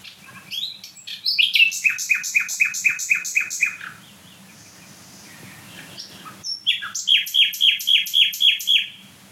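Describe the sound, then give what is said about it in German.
A common nightingale sings loudly and vigorously on 27 April, two bursts of rapid, repeated, shrill notes separated by a brief quiet pause, with no voices present. “Also hier stehen die wieder mal von der Nachtigall.”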